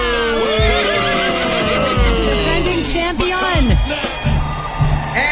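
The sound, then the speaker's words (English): A horse, Buck Naked, at the starting gate of the Taylor-Tucky Derby neighs loudly, a long quavering whinny that rises and falls in pitch, with a few dull thuds like hoofbeats underneath. “Finally, Grunwald in gate 68 and three quarters, riding his brand new horse, Buck Naked.”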